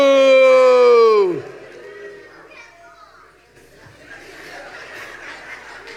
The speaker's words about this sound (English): That was the most humorous booing I've ever heard in my life.